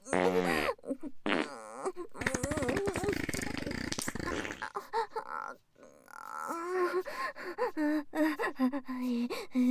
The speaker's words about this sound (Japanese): ダメ、嗅いでも嗅いでも出ちゃう。違います、興奮なんてしてない。おなら隠れて興奮なんて。